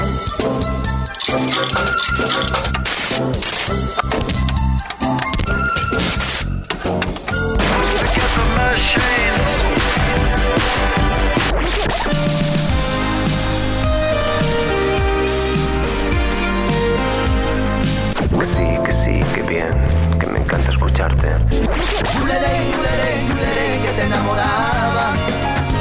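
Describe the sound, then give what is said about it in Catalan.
A show's theme tune, a loud, full-band musical theme, plays throughout with driving rhythm, layered instruments and steady sustained tones, with no voices over it. “Ah, doncs espera, posem la sintonia, que a veure si se sent al·ludit.”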